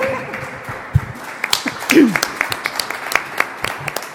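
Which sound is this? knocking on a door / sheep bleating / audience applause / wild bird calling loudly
audience applause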